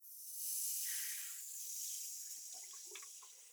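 Steady, soft hiss of running water rinsing shampoo foam out of hair after a shampoo and scalp massage, continuous, with faint wet squelches and drips layered in toward the end. No one speaks.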